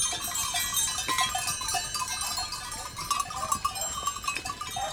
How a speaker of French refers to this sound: Pendant la journée, les brebis sont dans les prés. On entend les clochettes qu'elles ont autour du cou.